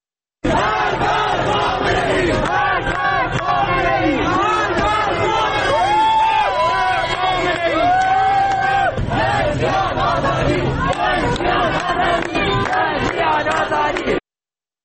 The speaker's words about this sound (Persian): در ایلام با شعارهای مرگ بر خامنه‌ای خیابون رو با افروختن آتش بستن و شعار میدن. این هم قطعیش رو گوش بکنیم.